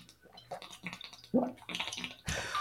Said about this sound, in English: That's a huge gulp. If I go anymore, I'm going to throw up. It's the water.